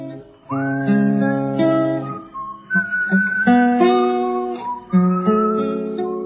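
A whistled melody glides and holds long notes over a sustained instrumental accompaniment, fairly loud and steady throughout, with no voices.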